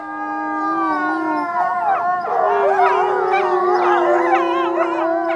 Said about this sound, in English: And wolves will howl on different frequencies, particularly the pups. Will be a much higher frequency.